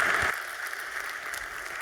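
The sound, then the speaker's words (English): A steady wash of audience applause welcoming speaker Andrea Barisani, many hands clapping in a dense, crackling texture that holds at an even level throughout, with no voices over it. “Please give a warm round of applause to Andrea Barisani.”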